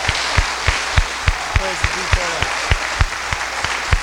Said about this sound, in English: So we thank all of you, and we want the brothers to welcome you again with a warm round of applause.